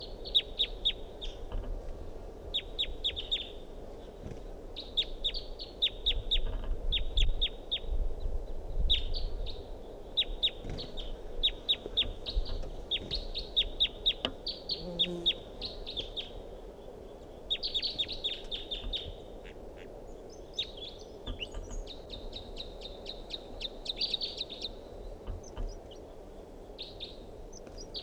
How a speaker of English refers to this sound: Wild bird in song.